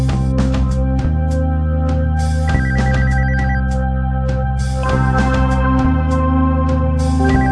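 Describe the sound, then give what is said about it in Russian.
A phone rings loudly and continuously with a melodic electronic ringtone, its repeating tune shifting between notes at a steady pace, with no one talking. “Так, а кто это звонит?”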